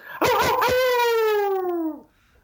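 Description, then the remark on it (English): A Canadian man imitates a hound dog's howl: one loud, sustained howl lasting nearly two seconds, opening with a few rough yips before sliding slowly downward in pitch and cutting off. “So why don't you just go ahead and give me your best old hound dog howl.”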